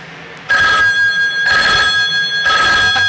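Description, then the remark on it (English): A telephone rings in three evenly spaced bursts, each a bright, warbling electronic trill with steady tonal bands, fairly loud, with brief quiet gaps between them. “Is that your phone?”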